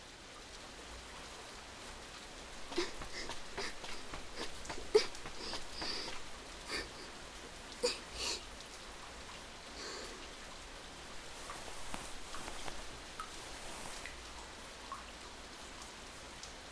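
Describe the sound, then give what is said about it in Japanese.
Steady heavy rain from a sudden downpour hisses continuously, with scattered louder drops spattering on a hard surface. No one speaks. “急な大雨だったので私も傘を持っていなくて、お互い結構びしょびしょになっちゃいましたね。”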